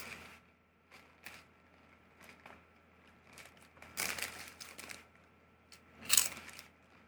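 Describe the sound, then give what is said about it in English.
Crunching on Baconzitos, light bacon-flavored puffed snacks that look like packing peanuts: irregular dry crackles and crisp bursts over several seconds, with a louder cluster in the middle and the sharpest crunch near the end. No one speaks. “Well, they still have their crunch.”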